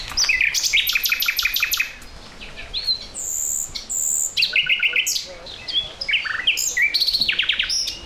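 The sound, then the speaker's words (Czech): A lively chorus of birds chirping and trilling by Lake Neusiedl, with many quick overlapping calls and tweets repeating nearly nonstop, clear, with no talking. “Oblast kolem Neziderského jezera je světově vyhlášeným místem pro pozorování ptáků”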